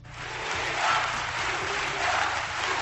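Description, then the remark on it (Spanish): A large crowd of party delegates chants the slogan "Unidad, unidad" in unison for newly elected party president Pablo Casado, loud and sustained, with voices swelling rhythmically twice over a dense roar of many people. “Unidad, unidad, un grito que ya se ha hecho clásico en los últimos años en la política española.”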